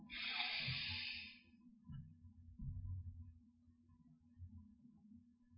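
A single deep breath taken to end a practice session, a long airy rush lasting over a second at the start, fading into a low, quiet background rumble with no talking.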